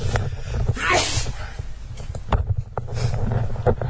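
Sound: sneeze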